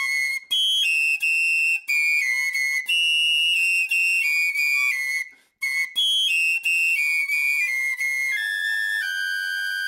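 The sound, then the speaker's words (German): Two high, pure whistling tones sound together, shifting pitch in steps with short breaks; the combination can create a faint low humming difference tone in the ear, also called a Tartini tone, audible only at higher volume. No talking. “Das, was da so ein bisschen im Ohr summt und brummt, das sind die tiefen Differenztöne.”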